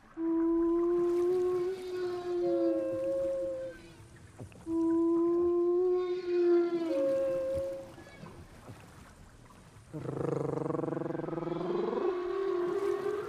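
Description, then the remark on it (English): A woman sings an imitation of whale song with two long, steady tonal phrases, each rising to a higher note, followed by a real whale call with a deep, rich, gliding moan that swoops and rises; single phrases from different years are compared, showing how the whale changes its song. “She sang one for us to show how the whale changes its song.”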